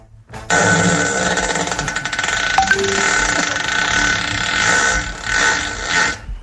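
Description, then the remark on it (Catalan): A motorbike engine buzzes and drones steadily for about six seconds, with a harsh, reedy tone, then revs up and down a couple of times before cutting off. “És una moto. Mi primera moto.”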